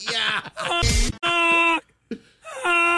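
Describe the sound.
A person imitates a goose with a series of loud, nasal, wailing honks, some long and drawn out, some short, with one raspy, breathy burst partway through.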